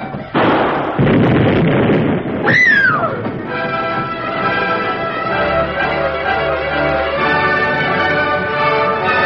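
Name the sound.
explosion blast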